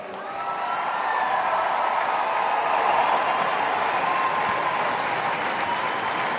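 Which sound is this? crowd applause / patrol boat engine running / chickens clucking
crowd applause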